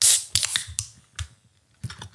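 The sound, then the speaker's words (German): A can of Dutch Bargain, a Zeus Craft Beer New England IPA (Pacific Haze), being opened: a brief sharp hiss of escaping gas, followed by a handful of small, irregular metallic clicks and taps. Fairly quiet, with no talking. “Und so hört sich das an beim Öffnen.”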